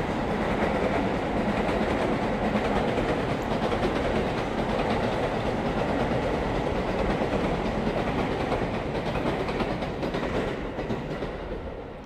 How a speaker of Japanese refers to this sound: めっちゃ電車通る相変わらず。